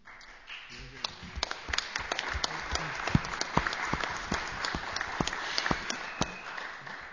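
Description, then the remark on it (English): A crowd at a Pacifica meeting aired on WBAI and WPFW applauds steadily after a speech, a dense wash of many hands clapping with sharp individual claps popping out, holding at an even, moderate loudness for several seconds. “Don't applaud, just send money.”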